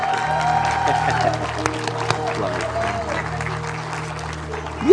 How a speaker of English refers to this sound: Congratulations. Can you give the family a hand clap?